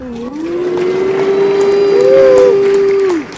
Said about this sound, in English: Let's give CEPIC a big cheer and a boo.